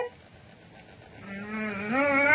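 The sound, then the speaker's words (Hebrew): Someone imitates a lion's roar, a drawn-out voiced growl that rises in pitch and swells louder toward the end, following a moment of quiet room noise. “את עושה אריה.”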